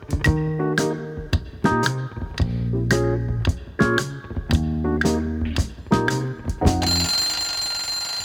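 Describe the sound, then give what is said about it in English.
Hector the rooster's brand new alarm clock rings out a bright, tinkling tune of quick repeated notes, loud, with no talking, before it gives way to a hissing, noisy tone at the very end. “Now when Hector sets his clock at night, he's sure that he'll awake with the early light.”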